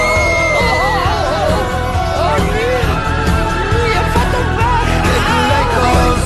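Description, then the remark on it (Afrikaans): A monster with dead eyes, dead skin and an unkempt look comes out of a box and screams, loud and harsh, wavering up and down in pitch as it rages on for several seconds over a dense, noisy rumble. “En daar kom 'n monster uit. Met dooie oë, 'n dooie vel en 'n onversorgde voorkoms. En hy gil.”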